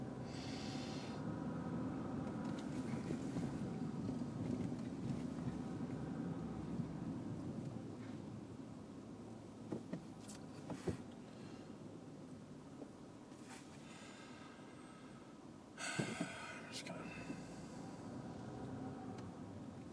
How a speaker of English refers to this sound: Cars.